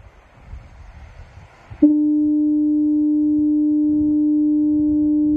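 A loud, deep lighthouse foghorn on a foggy coast starts abruptly and holds one steady, unbroken tone, following a few seconds of low rumbling wind or surf in the background.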